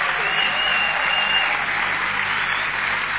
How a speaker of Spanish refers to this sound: Vamos, alguien que aplauda.